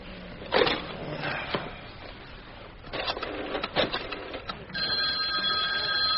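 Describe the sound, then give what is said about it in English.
A telephone rings on an outgoing call: a few seconds of clicking and clattering from handling the phone, then a steady electronic ringing tone fills the final second or so. No one speaks. “I'm making a phone call.”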